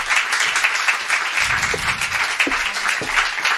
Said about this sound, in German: einen kleinen, großen Applaus